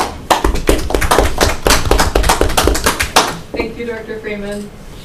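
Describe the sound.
A meeting audience applauds with dense, irregular clapping for about three seconds, then the claps thin out as a voice starts speaking.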